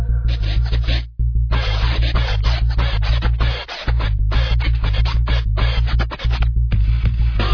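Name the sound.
DJ turntable scratching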